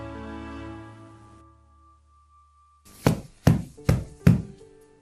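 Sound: knocking on a door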